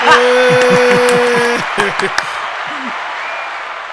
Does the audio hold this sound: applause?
yes